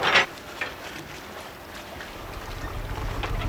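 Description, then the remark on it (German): An excursion boat's engine chugs low and steady across a lake while tourists look at the landscape and take pictures, rising gradually toward the end, with wind buffeting the microphone and a brief splash near the start. “Gemächlich tuckerte das Ausflugsboot über den See, während die Touristen die Landschaft betrachteten und Bilder knipsten.”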